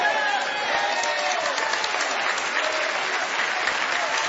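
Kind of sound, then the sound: crowd, audience clapping hands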